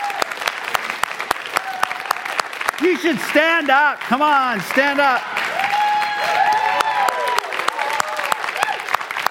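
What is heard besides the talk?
audience applause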